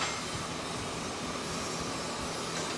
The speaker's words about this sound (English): pouring a bronze sculpture at Bollinger Atelier in Tempe.